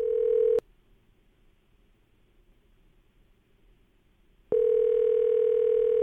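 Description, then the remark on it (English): A telephone ringback tone on an outgoing call: a steady electronic buzz that cuts off briefly, leaves a few seconds of quiet line hiss, then sounds again, clear with no one speaking. “It's ringing.”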